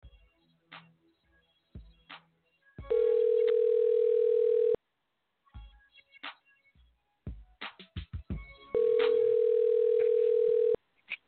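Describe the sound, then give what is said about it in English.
On an outgoing phone call, the ringback tone sounds twice: steady, loud, mid-pitched buzzes about two seconds each, separated by a pause filled with faint clicks and rustling. “Just see if you can answer the phone.”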